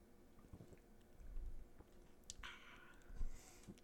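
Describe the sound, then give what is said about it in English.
A quiet sip of beer: soft wet mouth sounds and a brief slurp with a faint airy hiss, then a small swallow, with no talking. “All right, I'm going to sip it now right away.”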